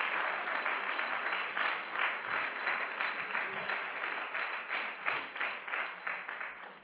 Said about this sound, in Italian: Amen, facciamo un forte applauso al Signore, per piacere. Alleluia.